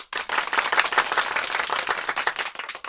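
A group of people clap together in dense, steady applause that stays loud and even for about three seconds, with no voices over it.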